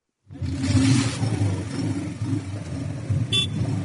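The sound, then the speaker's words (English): A boda boda motorbike taxi engine revs loudly, a rough, sustained roar that holds for several seconds after starting abruptly, with a brief sharp burst near the end, as the driver revs it to attract customers near Torit Civil Hospital in Torit. “A Boda Boda driver raises the engine of his motorbike to attract attention near the Torit Civil Hospital.”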